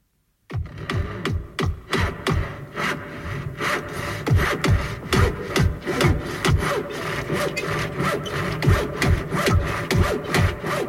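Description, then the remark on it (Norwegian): Rapid, steady back-and-forth saw strokes rasp through wood, with sharper hammer knocks mixed in, a busy rhythmic racket of people building a house, sawing and hammering, without voices. “Vi hamrer, og banker, og jobber, og slår.”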